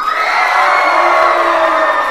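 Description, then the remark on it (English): A loud crowd of children cheering and shouting together, a dense sustained roar of high voices that stays steady throughout. “Who's going to cheer for their team?”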